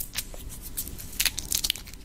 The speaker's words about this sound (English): I love the sound of the paper.